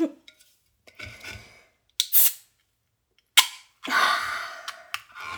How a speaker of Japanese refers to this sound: どっち開けようかな、ほろ酔い。じゃあジュワビタサワーの方開けまーす。いいですか？開けますよ。